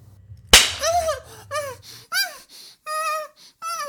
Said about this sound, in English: Watch my magic whip cut across her perfect skin.